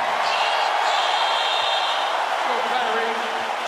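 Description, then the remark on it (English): A large arena crowd in Boston cheers and applauds for injured Celtics player Gordon Hayward at the home opener, in a loud, steady roar of voices and clapping that holds at full strength for the whole few seconds, with no single voice standing out. “Cheers and applause for the injured Gordon Hayward in Boston.”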